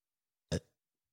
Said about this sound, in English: Just burping quietly into the mic.